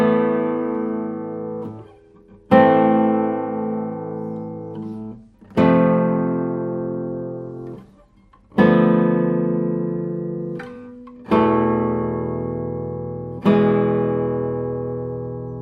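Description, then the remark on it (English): Six single guitar notes are plucked one after another, each left to ring and fade for a couple of seconds before the next. The notes are low to mid in pitch and similar in loudness. “It means the balance of this guitar is really, really good.”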